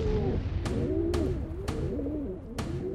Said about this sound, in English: Those birds were carrier pigeons, specially trained members of the same species as our familiar city pigeons.